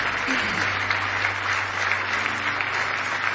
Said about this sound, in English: Give Him a real good hand clap of praise if you love Him.